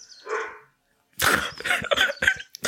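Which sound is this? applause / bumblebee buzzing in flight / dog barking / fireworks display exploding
dog barking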